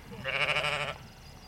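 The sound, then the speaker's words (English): A single sheep or lamb in a sheep enclosure with baby lambs lets out a wavering bleat lasting under a second, clear, with a quiet outdoor background afterward. “And I'm enjoying that we're having this conversation in a sheep enclosure with baby lambs and your grandkids.”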